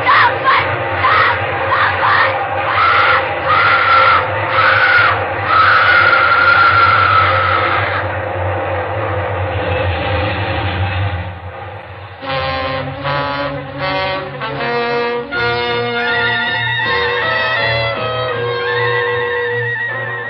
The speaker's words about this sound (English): Nobody's going to hear anything except this train. Here, there's the big baby now. A nice, long train. Long and loud.